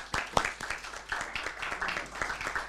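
An audience applauds steadily, a dense patter of many hands clapping at once with crisp, irregular smacks, fairly quiet and sustained throughout with no voices standing out.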